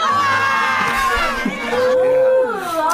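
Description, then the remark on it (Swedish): A loud, excited crowd screams and cheers at once, high shrieking voices overlapping and rising and falling in pitch, continuous for the whole few seconds. “Det här är ett svenskt hus, så bara skriker de som galningar. Och börjar gråta.”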